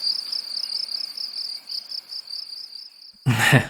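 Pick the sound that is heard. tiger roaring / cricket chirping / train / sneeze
cricket chirping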